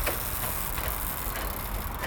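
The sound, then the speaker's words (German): The four sails of a post windmill on a small hill in Marzahn, Berlin, turning on a windy day, with faint rattling and creaking clicks repeating every half second or so over a steady, dense rush of wind and low rumble. No voices. “Rundherum Plattenbauten hier in Marzahn und auf so einem kleinen Hügel eine schöne Bockwindmühle. Und jetzt gerade drehen sich die vier Flügel auch. Ist nämlich ein schöner windiger Tag heute. Hören Sie mal, wie das knattert und knarzt.”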